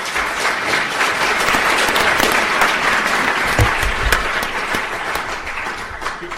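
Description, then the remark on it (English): An audience applauds a panel of four speakers at the close of an event, steadily for several seconds, a dense, even wash of many hands clapping at once that holds strong throughout and eases slightly toward the end. “And can we all give them a big round of applause, please?”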